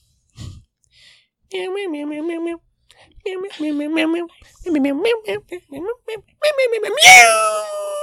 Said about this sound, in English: It was just meowing around, and it fell to a pipe, and then Keep on meowing.